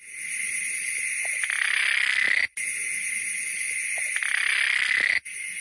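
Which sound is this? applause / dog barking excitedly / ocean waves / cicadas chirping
cicadas chirping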